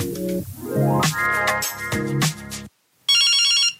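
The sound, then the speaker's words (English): A phone rings with a call from an unknown number: the ringtone plays a bright, tonal melody with rising note patterns that repeats twice, stops for a brief silence, then returns as a shrill, buzzing electronic ring. “Who's that again? I don't know that number.”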